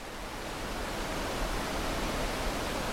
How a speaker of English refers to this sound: At first glance, it looks like any other waterfall. It's picturesque, surrounded by the lush wilderness of Minnesota's North Shore, and powerful enough to get that real good, relaxing roar of rushing water.